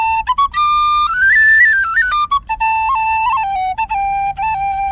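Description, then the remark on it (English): A tin whistle, held in the hand to demonstrate it against bagpipes, plays a lively melody, notes gliding and stepping between pitches with short breaks and ornamental flicks, bright and clear with no talking. “Just to demonstrate, I have the whistle in the hand here, so most bagpipes would be...”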